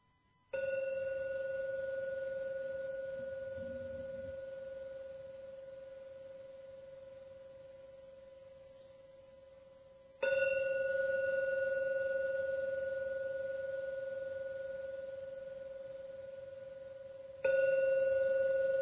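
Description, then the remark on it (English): A meditation gong is struck three times, each deep, ringing tone swelling and slowly fading over several seconds before the next strike. It sounds clear, with no talking. “Oh, now ring the gong 3 times as usual.”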